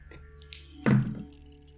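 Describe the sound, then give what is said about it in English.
Light tapping on a door: two quick knocks, the first soft and sharp, the second a heavier, duller thunk, over a faint steady low hum with no voices. “Yeah, there's a light tapping at your door”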